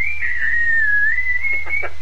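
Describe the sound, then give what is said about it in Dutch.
A person produces a high-pitched whistling tone carried over a radio link, holding steady with a slight waver for about two seconds, over a constant low electrical hum, with a few short bursts near the end. “Ja, je produceert goed hoge tonen. Die gaan goed door het elektronische circuit.”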